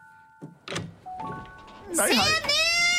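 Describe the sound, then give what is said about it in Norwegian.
A door opens: a couple of dull clunks from the latch, followed by a long, rising creak and squeal from the hinges that fills the last second. “Kan du gå og åpne den døren der?”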